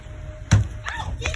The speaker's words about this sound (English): Oh, they hit the car.